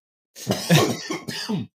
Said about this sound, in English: I'm good. Just you ever get like a sinus infection and you get a little bit of a cough? Like you're sick and then you're like just coughing for weeks.